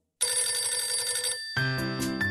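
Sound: telephone bell ringing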